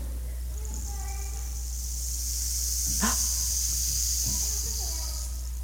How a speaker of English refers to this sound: It's called a rain stick. And when you tilt it, there are little beads inside there.